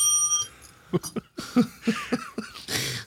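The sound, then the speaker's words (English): A single bright ding of a service desk bell rings out and fades, followed by a run of short, choppy vocal bursts and noise. “Oh, you know, just digging my bell. Trying to get service from you.”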